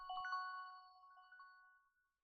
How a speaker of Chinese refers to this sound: 怎么是我手机响？完蛋！我死了，我死了！